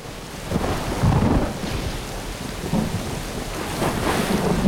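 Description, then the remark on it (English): Heavy rain pours steadily while deep thunder rumbles and rolls underneath, a loud, continuous storm with no voices. “Through the driving rain”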